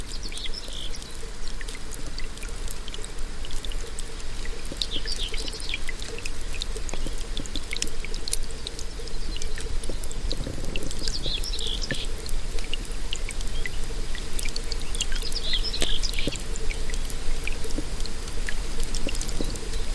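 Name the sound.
river water flowing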